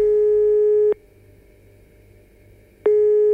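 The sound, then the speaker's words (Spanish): A telephone ringback tone heard while a news programme's production team places a call to a number said to belong to Momo: a steady, fairly loud electronic beep sounds, pauses for about two seconds, then starts again, with no voices. “La producción de este noticiero consiguió el teléfono de Momo y, como no le tenemos miedo a nada, decidimos pegarle un tubazo.”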